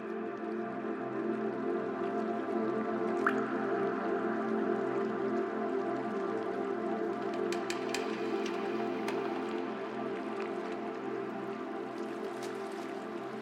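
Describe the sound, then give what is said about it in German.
A steady, echoing water ambience with scattered sharp drips and plinks over a constant low wash: water dripping in an elongated cave grotto with thousands of glowworms on its ceiling. There is no talking. “eine längliche Grotte. Über dir an der Decke leuchten tausende von Glühwürmchen.”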